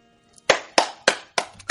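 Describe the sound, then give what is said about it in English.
Five sharp hand claps in a steady, slightly uneven rhythm, each a crisp, bright smack that fades quickly, with no voices underneath. “No, don't clap for it.”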